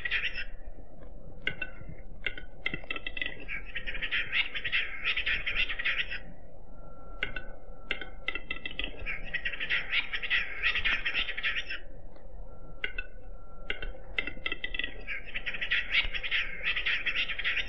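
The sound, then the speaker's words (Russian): Capercaillie calls ring out in repeated bursts of scratchy, chattering notes, each lasting a few seconds with short pauses between, steady in loudness, with no one speaking; the capercaillies are bathing in white snow. “А вот посмотри, купаются в белом снегу глухари.”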